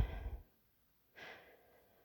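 heavy breathing

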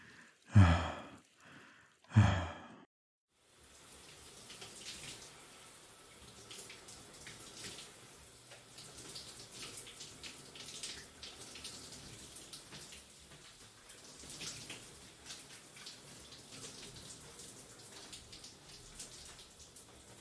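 shower water running

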